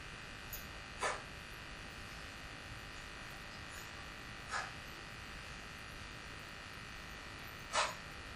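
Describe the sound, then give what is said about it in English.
A steady, droning air conditioner hum runs unbroken throughout, fairly quiet and even, with three brief sharper bursts popping up over it at irregular intervals. No one speaks. “Oh, the air conditioner.”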